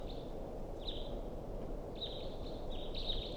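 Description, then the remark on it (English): A wild bird gives a few thin, high whistled calls, some short and some drawn out, repeating at uneven intervals over a steady background hiss. No one speaks. “So recording, this is a wild bird.”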